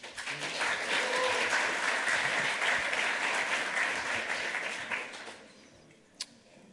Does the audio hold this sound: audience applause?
yes